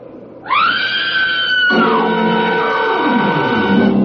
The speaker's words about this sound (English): Now, look, get over there inside the barn and scream. Long and loud, huh? Scream? Yeah. It's our only chance. Go on, do as I say,